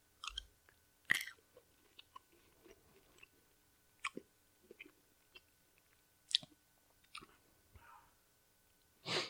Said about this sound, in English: I think if you just swallow it, it works. I crunched it like 4 times and then swallowed it, and I don't taste it any more spicy.